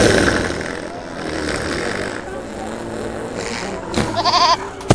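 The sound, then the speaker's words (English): A goat lets out a single wavering, quavering bleat near the end, fairly loud, following several seconds of muffled background rumble and indistinct voices. “You've gassed that goat!”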